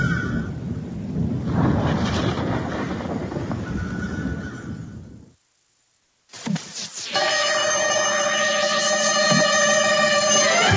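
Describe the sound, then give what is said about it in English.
A long, loud roll of thunder rumbles for several seconds and fades out, followed after a brief silence by a horse's sharp, shrill whinny. “I think a storm's coming.”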